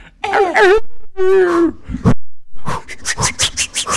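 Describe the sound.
A person imitates a whimpering dog: two wavering, whiny moans, a short grunt, then a quick rhythmic run of breathy yelps and pants, fairly loud.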